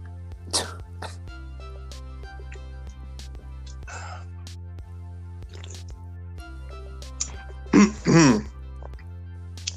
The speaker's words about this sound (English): man, let me clear my throat.